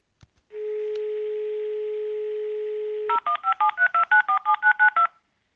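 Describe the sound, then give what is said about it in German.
A steady low dial tone hums for a few seconds, then about eleven quick touch-tone beeps follow in a brisk, even rhythm as a phone number is keyed in to call an ambulance. No one speaks. “Ich ruf jetzt mal den Krankenwagen.”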